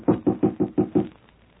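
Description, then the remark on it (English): Five firm knocks rap on the wooden office door of June Morris's typewriting service in quick, evenly spaced succession, fairly loud, followed by a brief quiet with no voices. “Shall I knock? Yes, son.”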